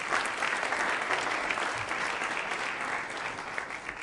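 Steady applause from an audience fills the whole stretch, a dense, continuous wash of many hands clapping at even volume without a pause.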